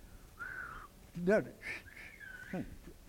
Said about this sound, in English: I can't whistle. Can anyone here know how to whistle?